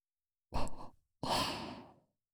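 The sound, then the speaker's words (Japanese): Two slow, airy, warm breaths are exhaled into the ear by a schoolgirl character, the first short and the second longer and trailing off like a sigh. The breaths are soft and breathy, with no talking. “生温かい JK の吐息をずーっと感じさせてあげます。”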